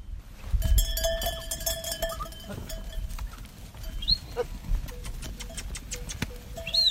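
A flock of sheep wearing bells is herded into line, the many bells clanking and ringing irregularly, a few bleats rising over the steady jangle and a low shuffling of hooves.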